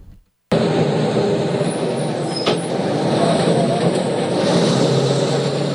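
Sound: bus engine running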